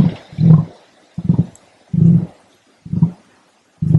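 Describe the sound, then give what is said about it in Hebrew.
An emu's deep drumming call: five low, booming thrums with short pauses between them, resonant and hollow like a didgeridoo, heard alone without any voices. “וכן, ככה הוא נשמע. כמו דיג'רידו, כמו טופי טמטם.”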